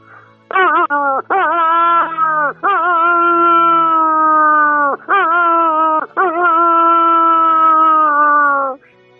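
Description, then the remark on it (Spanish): A human voice imitates a wolf's danger-warning howl in a loud series of sustained wailing calls, each starting with a sharp pitch dip, separated by brief breaks, with the final howls drawn out longest. “Esos dos son de peligro”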